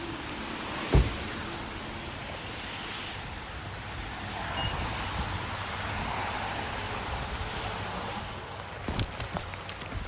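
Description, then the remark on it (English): Steady rain hisses across everything while street traffic rumbles underneath, with a sharp knock early on and a few clicks and beeps near the end. No one speaks. “So you heard a little bit of the sounds of the rain and the traffic and all the things.”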